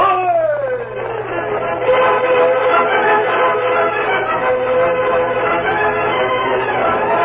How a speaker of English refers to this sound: It was after dark when the train from the east came into the town of Broken Bow. Pete Calkins came out of the telegraph office, swinging the signal lantern to direct the iron horse onto the rails of the siding.